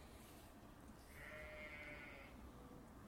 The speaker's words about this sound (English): So I've got a sheep over in the other side of the canal.